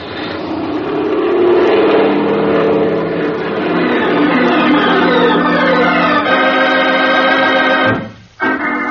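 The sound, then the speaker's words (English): An airplane engine throttles up to full power for takeoff into a loud, sustained roar, its droning tone climbing steadily, then dropping out abruptly for a moment near the end before picking back up. “Okay, then I'm going to give it the gun.”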